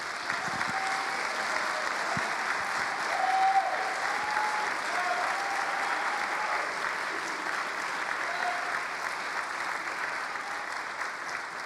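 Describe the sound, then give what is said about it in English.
Steady audience applause for guests, Goshen College graduates of the classes of 2012 and 1976, fills the whole stretch, a dense wash of many hands clapping at an even level, swelling slightly around the middle, with faint tonal sounds and a few voices underneath. “Let's give a round of applause to our guests.”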